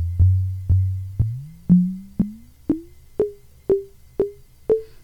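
Synthesizer pulses triggered by actual double clock signals, so each trigger double-hits: about ten sharp, evenly spaced hits, each decaying quickly, while the underlying tone glides upward in pitch and then levels off. No voices.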